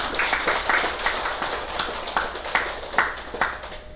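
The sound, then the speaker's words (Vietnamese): An audience at a Buddhist gathering applauds steadily for several seconds, at the request of the speaker, to honour a pledge to donate a statue: a dense wash of overlapping claps with a few sharper, louder hand-strikes standing out now and then. “Thành ra vì vậy đề nghị đại chúng vỗ cho một tràng pháo tay.”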